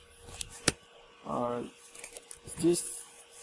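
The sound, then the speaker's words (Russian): A few sharp computer keyboard key clicks, pressed to move a shape drawn on screen in a program demo, one loud tap standing out among fainter scattered presses, with brief murmured voice sounds in between. “В следующем примере мы нарисуем на экране какую-то пимпу и будем управлять ею из клавиатуры. То есть я сейчас нажимаю на кнопки, и эта штука вот двигается.”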